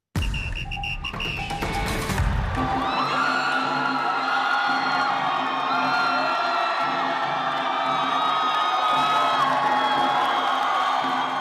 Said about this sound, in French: Les Bleus sont dans la place, accueillis hier soir, vous entendez ces cris. C'était à leur arrivée dans leur hôtel de Doha, alors par des gens, je ne sais pas si c'était des supporters, mais par des gens très enthousiastes qui portaient des t-shirts